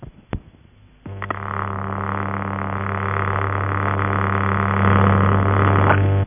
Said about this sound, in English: As a no tone does not make a very interesting recording, we'll press on to the sound of a vibrator tone that is produced by the relays.